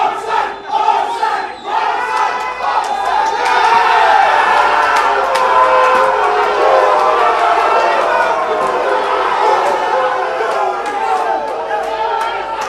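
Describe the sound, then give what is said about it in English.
A large stadium crowd at a Vanuatu United match in Australia roars and shouts in a sustained, loud wall of voices while incidents are scrutinised, with scattered yells and whoops rising above the din for the whole stretch. “And as the seconds ticked by and the incidents were scrutinised, the crowd made their voices heard.”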